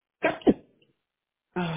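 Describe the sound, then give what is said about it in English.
A single sharp sneeze, a quick two-part burst, followed by a brief pause before someone starts talking. “Bless you.”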